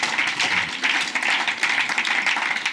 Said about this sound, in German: Wow, ja, gerne einen Applaus vom Herr.